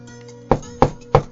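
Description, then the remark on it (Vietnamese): Three soft, evenly spaced knocks on the front door of a house, each a brief dull thud over a quiet low hum, with no voices. “Tôi chưa kịp nói một câu để má tôi hiểu tôi đang nghĩ gì thì ở ngoài cửa nhà trước hình như có tiếng gõ cửa nhẹ nhẹ.”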